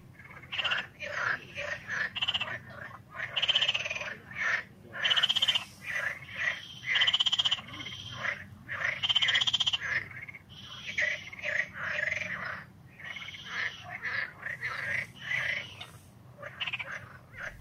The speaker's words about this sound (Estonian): Sellise kena krooksumisega tervitavad Jerusalemma kunagise raudtee äärsed konnad kõiki pereraadio kuulajaid.